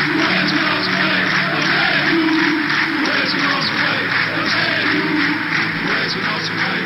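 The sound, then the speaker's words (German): A huge stadium crowd claps in a steady, rhythmic beat for minutes while massed voices chant together, paying final tribute to Eusebio as his coffin lies in the car; a dense, loud roar that holds constant the whole time. “Und genau das klatschten sie minutenlang, während er da in dem Wagen im Sarg lag und sie gaben ihm die letzte Ehre und das klang dann so.”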